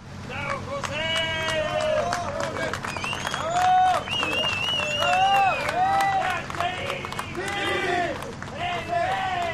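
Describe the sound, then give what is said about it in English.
A crowd cheers and claps as the seventh rescued miner comes to the surface, with many voices shouting and calling out over steady applause. The excited din stays loud and continuous throughout, with sharp claps and rising whoops. “That's the sound of the seventh miner coming to the surface.”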